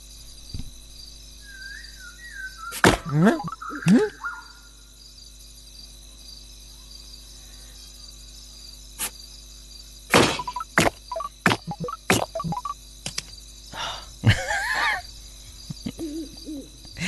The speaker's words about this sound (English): I'm playing a game on my iPhone. And I love the noises. Listen to that.